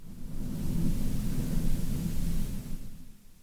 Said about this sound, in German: Ich habe es mal eben kurz sensibler eingestellt, vielleicht habt ihr es eben mitbekommen. Jetzt donnert es und blitzt es hier und gewittert.